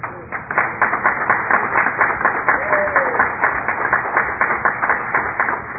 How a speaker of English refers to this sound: Now, it's strange that we would be at a Confederate banquet clapping for a black candidate.